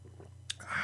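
A quick sip of wine from a glass: a small wet click from the lips, then a soft slurping draw of liquid, over a low steady hum, with no talking.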